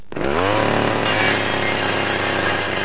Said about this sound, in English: Chainsaw!